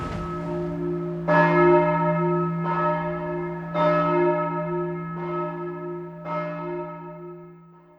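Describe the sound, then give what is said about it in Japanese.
A large bell tolls slowly and steadily, about five strikes roughly every 1.3 seconds, each ring sustaining a rich, humming resonance that overlaps the next, with no voices present. “鐘が鳴ってますね。”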